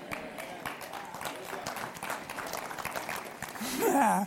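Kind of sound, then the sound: crowd, audience clapping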